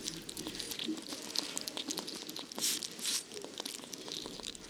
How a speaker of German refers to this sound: Ich selbst esse kleine Tiere wie Schnecken oder Insekten. Manchmal schmatze ich ganz schön laut.